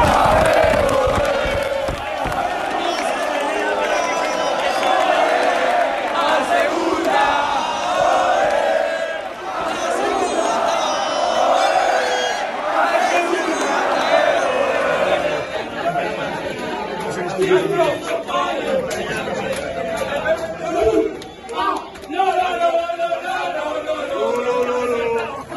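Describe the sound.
A large stadium crowd roars in celebration, a dense, loud wash of shouting and cheering that holds steady for about fifteen seconds before thinning into scattered voices and chatter.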